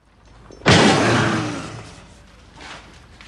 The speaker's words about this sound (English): The balding man in front bangs his staff.